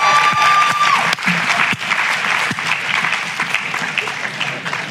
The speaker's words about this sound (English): Yeah, I know you want to clap and shout and scream. You should.